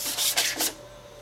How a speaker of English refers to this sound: And we're going to just kind of use a spreader here. Yeah, just pull it. Start filling in the... Squared off all the edges by using it on both sides and sanding it down. And now we've got a pretty smooth surface.